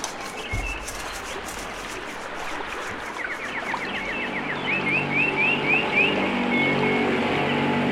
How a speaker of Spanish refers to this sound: Además, ya ni se puede estar en paz aquí en el río, porque aparecen haciendo ruido con esa lancha.